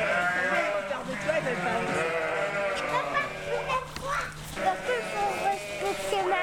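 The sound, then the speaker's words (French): Several ewes on a farm bleat, their wavering, nasal cries overlapping almost continuously, with a few louder calls rising above the flock. “J'aime bien mes brebis.”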